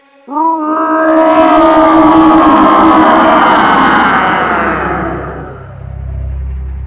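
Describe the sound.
A loud, gravelly victory roar from a single voice, let out after finishing building a fortress, bursts in and holds for about five seconds at full strength, then drops away into a low, lingering rumble.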